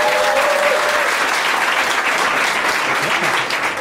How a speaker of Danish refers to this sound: Kan vi prøve igen, fordi det er en podcast, hvor folk klapper? Ja, klap.